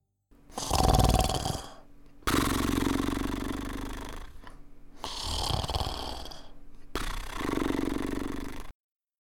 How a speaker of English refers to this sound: But before he could go on with his story, he dropped off to sleep and began to snore. His snores rose like trumpet notes into the night.